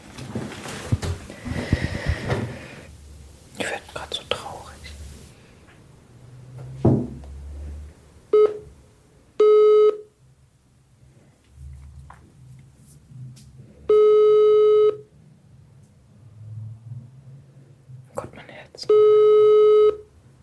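telephone ringback tone

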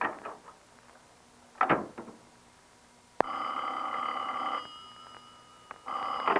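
telephone bell ringing

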